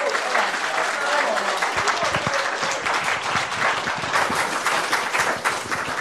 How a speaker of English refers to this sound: But you know, could you just make him feel welcome? Could you give him a round of applause for even getting over?